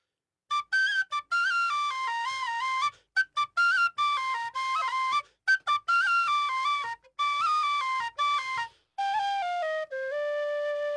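A tin whistle plays a quick, lilting melody up close, with rapid ornamented notes and brief breath pauses between phrases, ending on a sustained tone; no voices are heard.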